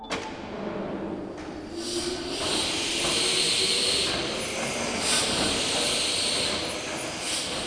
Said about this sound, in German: Heute ächzt und schnauft die Maschine nur noch für Besucher.